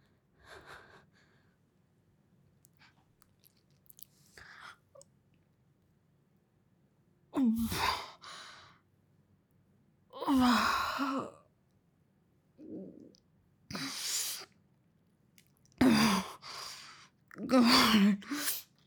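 Slow, heavy breaths drawn in and pushed out, about five or six long airy exhales and sighs separated by quiet pauses, with no talking.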